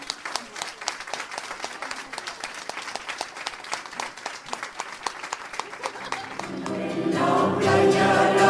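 An audience applauds the maker of an exhibition's physical building and cathedral models with a dense, steady patter of many hands clapping, then music swells in beneath the applause and grows louder over the last couple of seconds.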